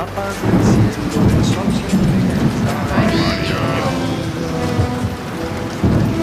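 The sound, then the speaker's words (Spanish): Steady, loud rain hisses throughout while deep thunder rumbles roll underneath, with faint voice-like tones drifting in the middle of the storm. “La inquietud de estos días se refleja en tantos españoles mirando al cielo a ver si el sol es amarillo o la lluvia y los truenos pueden apagar tanto brillo.”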